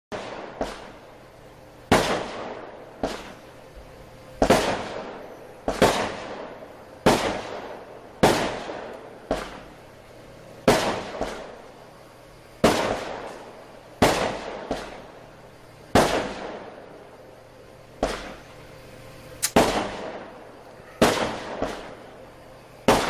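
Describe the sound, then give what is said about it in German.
Fireworks explode outside during a party, a long irregular series of about twenty sharp loud bangs, each followed by a brief crackling, rumbling decay. No one speaks. “Jetzt gibt's auch noch Feuerwerk.”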